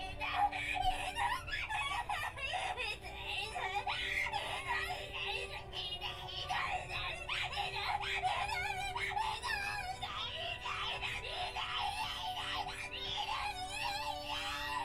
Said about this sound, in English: And the award for best terrified scream in an Arrowgay game goes to whoever the voice actress was for Yuika.